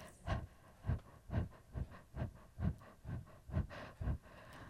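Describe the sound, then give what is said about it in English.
A person pants in short, shallow breaths, imitating a panting puppy: about ten quick, breathy huffs in a steady, even rhythm, with no talking. “Wiggle and shake your whole body, taking short, shallow breaths like a panting puppy, like this.”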